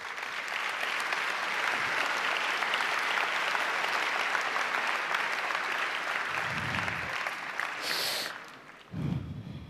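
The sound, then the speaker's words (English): Sustained audience applause for leaders who are trying, a dense steady wash of many hands clapping for about eight seconds, then thinning out with a few low thumps and rustles at the end. “Can we give a round of applause to our leaders who are at least trying?”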